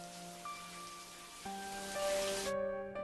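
A shower runs in a hotel bathroom behind a frosted glass screen, with a steady, rain-like hiss of water and a low droning hum beneath it; the spray grows slightly louder midway, then its bright upper edge abruptly drops away near the end.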